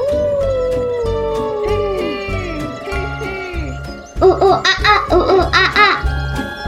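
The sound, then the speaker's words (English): A voice imitates a monkey call with quick, rhythmic ooh-ooh-ah-ah hoots, loud, following long sliding hoots over a steady musical backing with a light beat. “And then she made a monkey noise. Oh, oh, ah, ah!”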